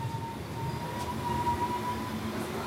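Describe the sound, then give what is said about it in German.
A diesel railcar of a private railway company idles at a station platform on the Ostbahn line, which has no overhead electric wires, giving a steady low rumble with a faint constant whine above it, continuous and unchanging, with no voices. “Deswegen befährt die private Niederbahnimer Eisenbahngesellschaft das hier mit Dieseltriebwagen, auch eher ein Auslaufmodell.”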